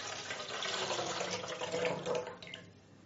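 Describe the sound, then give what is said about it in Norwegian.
Water pours steadily from a carton into a jug, a continuous splashing trickle for a couple of seconds that thins out and stops near the end. “Da skal du helle vannet fra den mekkekartongen over i mugga.”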